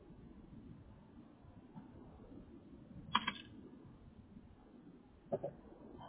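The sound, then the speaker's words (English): Two short, sharp computer keyboard clicks, a few seconds apart, stand out against a steady low background hum, like keys pressed for a quick copy and paste. No one speaks. “A little more copy and paste.”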